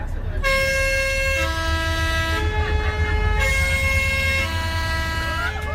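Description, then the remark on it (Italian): A vintage postal bus taking passengers to Mairengo sounds a loud, stepped multi-tone horn melody, the notes changing pitch in sequence, over a steady low engine rumble that continues throughout. “Un'auto postale d'epoca ci porta a Mairengo.”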